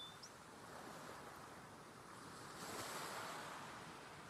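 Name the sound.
pacific Ocean waves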